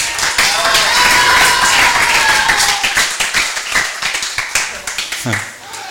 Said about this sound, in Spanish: Y otro aplauso para todos ustedes que son mis amigos y mis amigas.